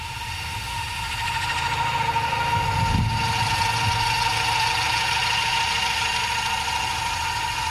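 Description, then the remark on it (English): Terry the Terrestrial Helicopter, a small helicopter drone that is a cousin to Ingenuity, flies right overhead with a steady, high buzzing whine and a tonal hum. The sound swells briefly about a third of the way through as it passes, with no talking. “And then he did a flyover right over my head.”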